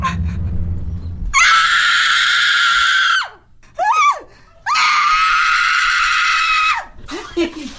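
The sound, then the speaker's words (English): A woman in a horror film clip lets out two long, piercing screams, each held for about two seconds, separated by shorter strained cries and gasps, loud after a brief low rumble at the start. “Quit screaming.”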